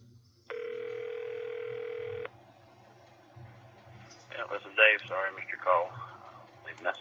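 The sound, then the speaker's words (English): An outgoing phone call rings out with one steady, buzzing ringback tone lasting about two seconds, then a pause before a person starts talking over a faint low hum. “Answer the phone.”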